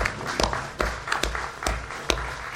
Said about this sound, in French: donc on peut l'applaudir.